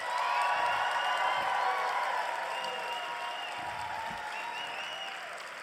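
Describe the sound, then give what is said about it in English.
A large crowd applauds in answer to being asked who will vote for the speaker again in 2020, a dense, sustained roar of clapping with scattered cheers and whoops, holding steady for several seconds before easing off slightly toward the end. “Now, who here will vote for me again in 2020? By a round of applause.”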